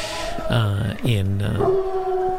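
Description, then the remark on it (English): A hound dog in a small coastal town lets out two drawn-out, wavering howls that slide down in pitch, followed by a shorter, higher whine. The sound is loud and stands alone, with no talking. “There's a hound dog.”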